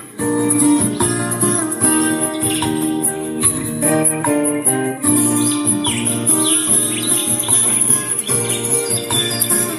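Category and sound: bird, small birds singing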